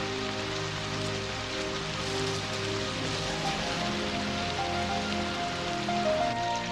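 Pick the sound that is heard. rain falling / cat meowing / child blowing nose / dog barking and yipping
rain falling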